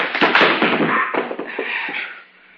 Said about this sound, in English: You knocked him out. Yes. You shouldn't have done that.